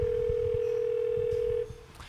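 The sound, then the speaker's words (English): A steady, single-pitched telephone tone drones for about a second and a half, then cuts off, leaving a faint click and quiet line noise as Padma Lakshmi's phone call to authorities connects. “Padma Lakshmi has made yet another desperate phone call to authorities. Let's listen in.”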